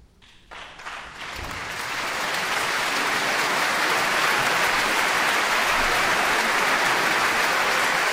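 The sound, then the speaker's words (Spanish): The audience at a 2024 New Year concert of video game music in the Pixel Sonoro bursts into applause as the virtual conductor approaches the stage, starting with scattered claps and swelling within a couple of seconds into a dense, loud, sustained roar of clapping. “El aplauso ensordecedor, porque va a dar comienzo esta nueva edición concierto de Año Nuevo en el Pixel Sonoro Musikvagain.”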